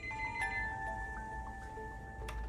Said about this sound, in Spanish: Pero en ese momento el teléfono sonó.